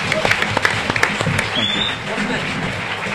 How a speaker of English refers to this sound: So should we give them a round of applause? Thank you all so much.